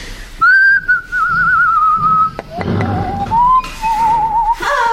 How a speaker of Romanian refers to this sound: După fluierat v-am dat de urmă.